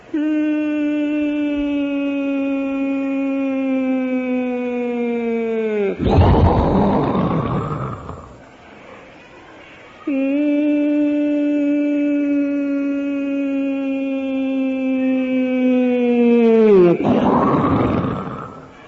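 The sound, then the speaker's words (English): A voice imitates, as Srila Prabhupada used to, bombs falling on Calcutta during the Second World War, twice: a long, loud droning tone that slowly slides lower, each time ending in a harsh, noisy burst like an explosion. “Prabhupada would like to imitate bombs.”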